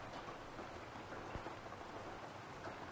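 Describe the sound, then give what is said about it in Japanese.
Steady rain that has been falling since morning pours down in a dense, continuous hiss, with scattered drops pattering on a surface. No voices are present, only the even wash of rainfall throughout. “そんなに暇じゃなかったよ。雨見てたし。”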